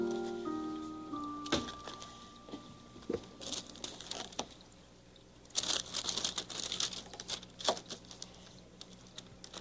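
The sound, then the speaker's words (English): Wrapping paper rustles and crinkles in irregular bursts as a mirror is wrapped as a present for Mrs. McFeely, louder and denser midway through, with a faint steady tone fading out at the start and no talking. “I'll feed you after we wrap this mirror.”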